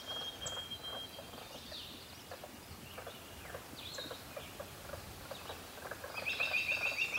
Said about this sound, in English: There was the robin again. And also you can hear a kind of a frog.